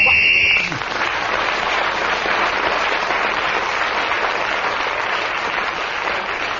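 A short, shrill whistle blast marks the end of a round of a radio panel game as a player gains an extra point, then gives way to loud, steady applause that carries on for several seconds.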